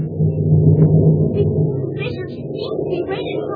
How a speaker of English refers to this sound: It's still pouring rain, and the night's mighty dark. Just listen to that thunder.